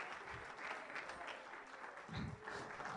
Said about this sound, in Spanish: A su nombre, démele un aplauso, démele un aplauso, démele un aplauso.